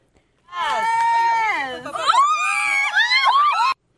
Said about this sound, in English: Oh, yeah. No, that is that's real. Yeah, that's real. It is. Yeah, that's real panic. Wow. That's real screaming. That's real flames.